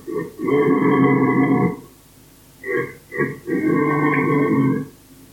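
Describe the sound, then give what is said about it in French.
A red deer stag gives deep, guttural burping grunts: a long rumbling call, two short grunts, then another drawn-out one, loud with no voices. “Alors le cerf peut aussi pousser un grognement pour signaler sa présence. On dit alors qu'il rôte.”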